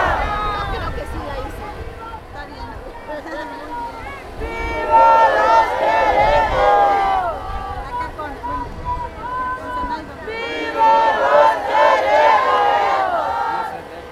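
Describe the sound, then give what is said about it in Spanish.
A large crowd of students from the Ayotzinapa normal school chants in loud, rhythmic bursts for truth and justice for their 43 disappeared, many voices shouting together in waves with a ringing echo, swelling around the middle and again near the end. “El eco que se escucha es de los soldados de la normal de Ayotzinapa en el ejército que busca verdad y justicia para nuestros 43 desaparecidos.”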